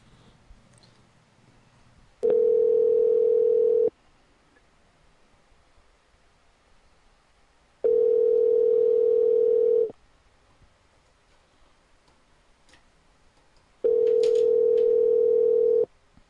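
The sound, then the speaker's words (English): A telephone dial tone sounds three times, each a steady two-second hum separated by several seconds of near silence, clear with no one talking, while a call is placed back after the other side hung up. “Finally hung up. But we're calling back.”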